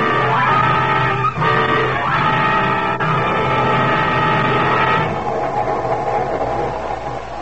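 A loud, steady rumble of a passenger train running along the rails, a dense continuous roar with a rattling texture that eases slightly toward the end. No voices are heard.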